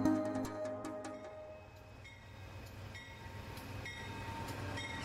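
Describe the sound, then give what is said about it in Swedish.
A train rumbles in low and steady while brakes give off high metallic squeals and clanks, sharp bursts early on that settle into a continuous grinding screech as the train slows and brakes into the railway station in Charlottenberg, Värmland, 6 kilometres from the Norwegian border, on 25 June 1941. “Ett tåg bromsar in på järnvägsstationen i Charlottenberg i Värmland, 6 kilometer från den norska gränsen.”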